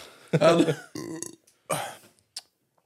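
A loud, drawn-out burp right up close, followed by a couple of shorter, throaty vocal bursts before the room goes quiet.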